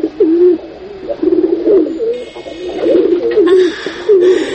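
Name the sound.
pigeon cooing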